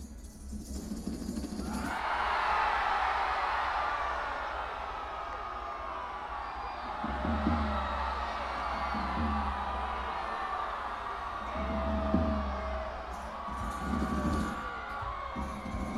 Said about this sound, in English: So when you see that, you'll know to scream like you're being swallowed by a whale. Let's give it a practice run, just once.